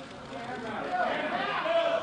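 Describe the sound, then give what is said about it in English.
A crowd of reporters and community members, gathered to hear the announcement that Graham Spanier was no longer university president and Joe Paterno no longer head football coach, erupts in overlapping, startled murmurs and exclamations, a dense wash of many voices that swells slightly louder partway through and stays steady to the end. “You can hear the shock there in the crowd of reporters and people in the community gathered to hear that announcement, which came last night and came suddenly.”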